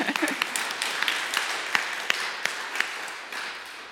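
A group applauds, many quick sharp claps blending into a steady, moderately loud patter that carries on for the full few seconds before easing slightly at the end.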